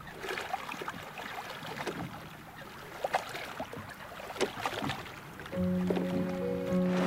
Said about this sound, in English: Behind her, another boat glides through the water with two men.